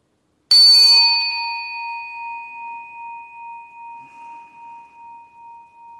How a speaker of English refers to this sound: I'm going to go ahead and ring this bell. And at the sound of this bell, just going ahead and listening to the sound to the very last trace of sound.